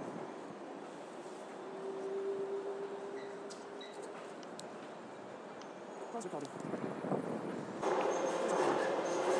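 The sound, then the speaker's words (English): Steady rumble and hum of a DLR light rail train at a station platform, heading in the direction of Canary Wharf, with a brief motor whine early on and a louder, brighter surge of rolling noise toward the end. “Train on another DLR train, now heading in the direction of Canary Wharf.”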